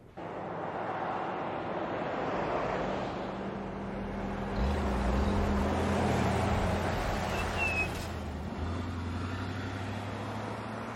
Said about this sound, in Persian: یه روز دیگه و یه کامیون باربری دیگه.